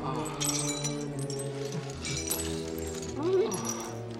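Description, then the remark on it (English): Skylight glass crashes and shatters loudly as George crashes through the skylight and flattens Vernon and Harvey, a dense burst of breaking shards and tinkling pieces lasting several seconds, with voices and other commotion mixed in underneath. “George crashes through the skylight and flattens Vernon and Harvey.”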